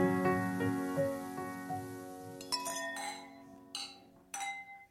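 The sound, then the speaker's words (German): Glasses clink together several times in a toast at a table in Vienna, bright ringing taps over a low steady hum, with a few sharper clinks toward the end. “Prost. Prost. Prost.”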